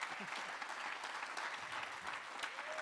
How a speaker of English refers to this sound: Applaud him. It was awesome.